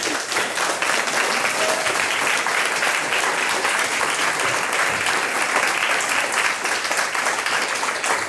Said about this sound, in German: Hat sie euch eine Lehrerin einen großen Applaus verdient? Dann klatscht einmal für sie.